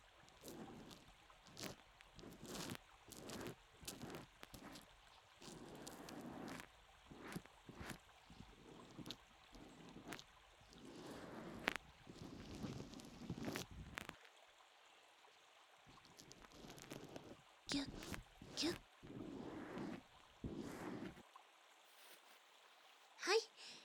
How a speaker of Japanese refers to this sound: 最後に泡を拭いて、きれいにしていきます。拭き拭き、